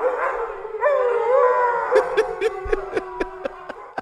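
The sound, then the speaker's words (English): Several dogs howl together in unison in response to a home run, in long, wavering, overlapping tones, fairly loud. In the second half, quick rhythmic yips and barks break in over the sustained howling. “I always think it's so great when dogs respond to their owners or to something cool by singing along and howling along.”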